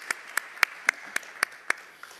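A short run of steady, evenly spaced hand claps, about eight sharp slaps in just over two seconds, fairly quiet, with no voices over them.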